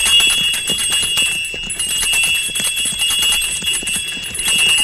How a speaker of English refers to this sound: Now I'll ring the bells and attract a little attention.